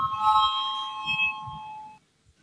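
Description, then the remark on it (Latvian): A bright electric bell rings steadily for about two seconds in a parliament chamber, called before a vote on a committee's proposal. Its high sustained tones shimmer over a low murmur of room noise, then cut off abruptly into quiet. “Lūdzu zvanu, balsosim par 21. atbildīgās komisijas priekšlikumu.”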